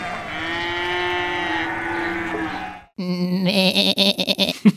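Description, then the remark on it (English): A person's voice imitates a llama, with a long, drawn-out nasal bleat followed by a shorter, wavering and stuttering one, sounding more like a goat. The imitation is loud, with no other talking. “That's kind of more like a goat.”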